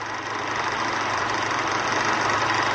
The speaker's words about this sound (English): Service lift.